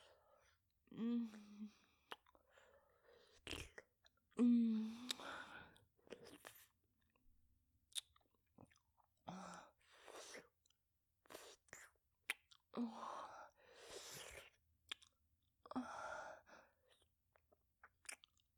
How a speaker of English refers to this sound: Watch me while I wrap my lips around the head of your cock and slurp out all that juicy pre-cum straight from the source.